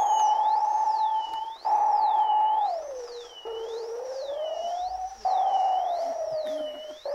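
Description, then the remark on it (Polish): An electronic sine tone from a variable sine tone generator slowly glides down and back up, with abrupt jumps, while a higher tone warbles up and down in steady, regular sweeps. Continuous and fairly loud, with no voices. “Z generatorem tonu sinusowego, zmiennego.”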